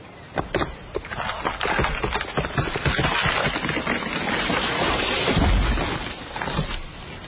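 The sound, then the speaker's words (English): A tree falls in a forest: dense, rapid cracking and splintering of wood builds over several seconds, then a deep heavy thud as it hits the ground, followed by a few trailing cracks. “If a tree falls in the forest and no one is around, does it make a noise?”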